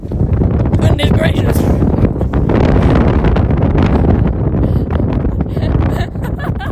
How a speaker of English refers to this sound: It's really windy.